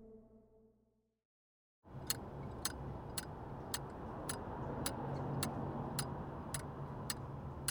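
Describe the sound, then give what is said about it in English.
A metronome ticks in a steady, even rhythm, about a dozen sharp clicks, heard over a constant low rumbling background noise that starts abruptly after a brief quiet pause. “Tell me what you hear. Ticking? Your metronome?”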